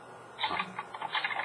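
Someone typing notes on a keyboard during a Bible talk: a quick, uneven run of soft key clicks that goes on steadily and sounds fairly faint, with no voices.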